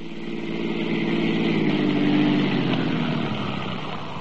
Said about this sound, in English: Dawson stopped the police car in front of my house.